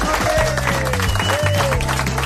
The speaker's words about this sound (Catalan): Ha sigut com un aplaudiment molt llarg, eh?